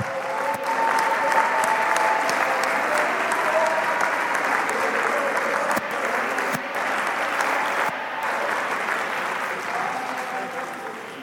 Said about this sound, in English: Oh, now let's clap our hands and shout one more time.